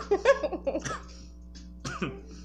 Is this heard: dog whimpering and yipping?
no